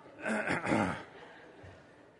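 Two quick, harsh coughs back to back within the first second, followed by quiet room tone.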